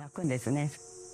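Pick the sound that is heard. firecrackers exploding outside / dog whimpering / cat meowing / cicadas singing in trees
cicadas singing in trees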